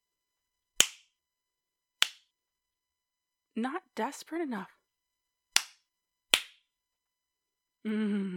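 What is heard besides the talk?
slapping on skin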